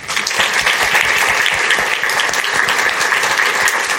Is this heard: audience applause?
yes